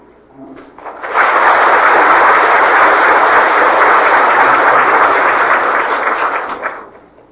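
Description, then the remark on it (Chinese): An audience breaks into loud, sustained applause in praise of a teacher, a dense wash of many hands clapping that holds steady for several seconds before tapering off. No one speaks over it. “所以这个希望大家安尼来向咱这个情况老师来个鼓掌来赞扬。”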